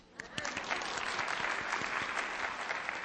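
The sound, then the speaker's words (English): An audience of women applauds: dense applause rises quickly and holds steady, a continuous wash of many hands clapping at once, fairly loud, with no voices audible over it. “Now, how many of you ladies, by applause, have ever been deceived by your feelings?”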